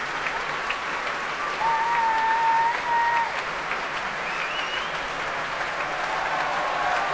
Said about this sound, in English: The percussionist who you heard at the very beginning of that piece is getting a huge round of applause now